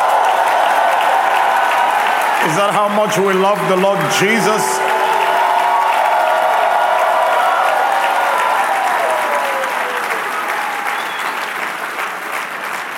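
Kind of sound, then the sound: crowd, audience hand clapping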